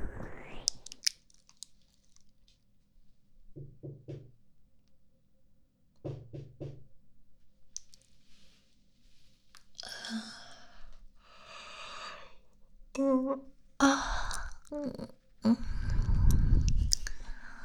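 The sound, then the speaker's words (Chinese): Two separate bursts of quick knocking on a door early on a weekend morning, each a tight cluster of three or four firm raps, followed by rustling, shuffling movement and a few soft breathy vocal sounds. “大周末的啊，谁这么早敲门啊？”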